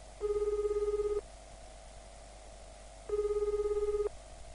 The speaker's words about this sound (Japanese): 数度の呼び出し音の後、くぐもった男の声が耳に届く。